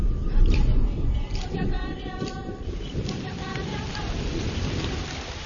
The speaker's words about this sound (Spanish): Por fin llegan nubes esperanzadoras. Grandes cúmulos se forman sobre la sabana reseca y con 3 años de retraso descargan por fin la lluvia.